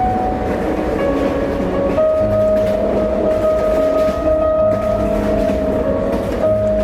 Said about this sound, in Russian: Всю дорогу ей казалось, что красная стрела едва тащится, тогда как поезд стремительно мчался сквозь ночные леса, обдавая их паром и оглашая протяжным предостерегающим криком.